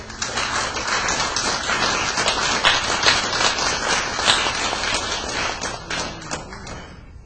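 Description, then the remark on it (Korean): An audience applauds steadily for about seven seconds, a dense wash of many hands clapping at a fairly even loudness before it thins out and fades toward the end. “우리 박수 한 번 합시다.”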